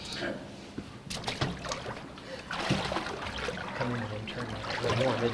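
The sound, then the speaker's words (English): Water sloshes and splashes as someone wades into a baptismal pool for a baptism, with irregular swishing surges and trickles, and a voice murmuring faintly in the background. “You got a lot of water in here, and sometimes the heating element can be slow or fast, so come on in here.”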